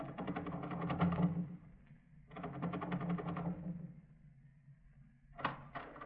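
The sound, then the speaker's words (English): Two stretches of rattling, ratcheting metal noise, like a key working the lock of a house door, followed by a sharp click as the latch gives and the door opens. No voices. “The door's locked from inside.”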